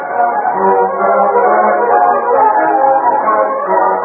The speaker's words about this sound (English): Finally, they heard a train whistle. Hey, that came from the east, Bushy. The express is coming.